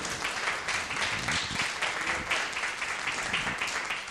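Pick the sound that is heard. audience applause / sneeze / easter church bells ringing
audience applause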